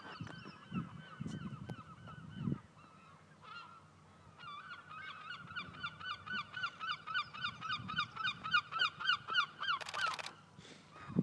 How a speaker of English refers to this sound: There is a very, very slight breeze. Absolutely nothing at all, really. And there's seagulls everywhere. There, you can hear them.